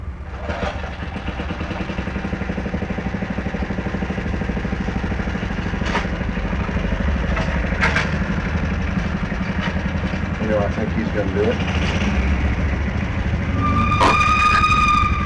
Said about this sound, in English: Gee, wouldn't you like to have a hot car like that? Squeal the tires in the corner? Hot rod.